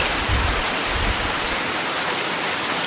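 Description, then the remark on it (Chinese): Steady, dense hiss of heavy rain pouring down, loud and continuous with a broad rushing texture and some low rumble, no voices over it. “哇，下大雨啊！现在在下雨，你们后面听得到吗？”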